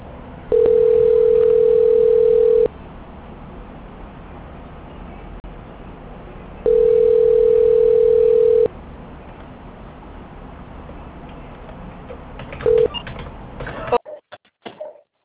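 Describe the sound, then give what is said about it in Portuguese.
Telephone call transfer tones as a bank call is transferred to Banco Santander's quality control: two long steady beeps of about two seconds each, then a short blip, over a low line hiss, before the line cuts out. “peço que aguarde em linha, que eu vou transferir para o controle de qualidade”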